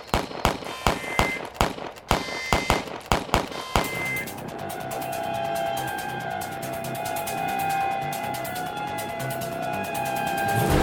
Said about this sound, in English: She is half insane. I barely got set up when she started shooting that gun of hers.